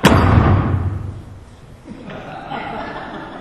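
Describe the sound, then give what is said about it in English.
A single loud thud as a hand bangs down on a wooden pulpit in a Baptist church, ringing briefly before fading into soft chuckles and murmuring from a crowd. “Now, you can say I banged the pulpit one time.”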